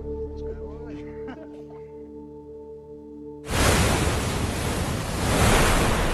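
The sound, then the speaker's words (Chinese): After a few seconds of soft sustained music, a loud, full roar of crashing sea waves and gusting wind at the Pearl River estuary, as a typhoon approaches, suddenly takes over and keeps surging, growing slightly stronger toward the end. “距离沙漠4000公里的珠江入海口，台风迫近”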